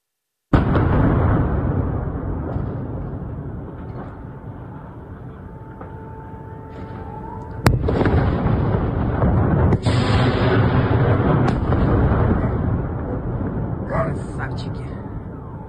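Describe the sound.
A heavy, continuous rumble of explosions in Nova Kakhovka, with a few sharp, loud blasts cracking through partway along, recorded outdoors, with indistinct voices mixed into the noise.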